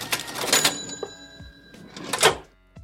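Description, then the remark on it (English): A cash register rings up: a burst of mechanical clatter with a bright bell ding, a short lull, then a louder rattling slide of the drawer ending in a low thud. No one speaks. “Cash that drawer.”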